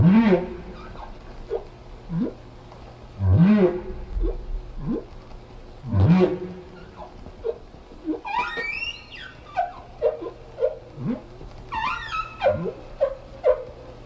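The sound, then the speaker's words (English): Humpback whale song, recorded in the same place about 10 years after an earlier recording: deep swooping moans and rising whoops repeat every few seconds, then give way to higher squeaky chirps and wavering cries over a steady low underwater hum. “The whales slowly accumulated a bunch of differences until they began to sing this song.”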